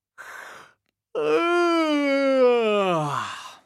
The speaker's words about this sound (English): So, stand up in a space, shoulders relaxed and feet apart. Let's have a big yawn to start with.